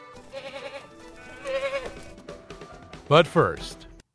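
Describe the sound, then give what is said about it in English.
A goat bleats several times with a quavering, wavering cry, starting moderately and ending with two louder bleats in quick succession. “Also, it's getting to be that time of year to put away the lawn tools, the mower, the trimmer, the goats.”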